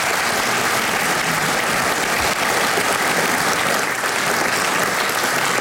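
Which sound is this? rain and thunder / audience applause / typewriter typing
audience applause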